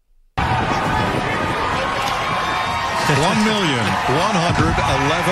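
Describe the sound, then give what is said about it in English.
Fans in the stands at Bristol cheer under the lights after Chase Elliott wins the NASCAR All-Star race, a loud, steady roar that starts abruptly and holds throughout, with a man's voice speaking over the crowd noise in the latter half. “But it was pretty cool when Chase Elliott got out of the car after winning the race on Fox Sports just to hear the fans behind him.”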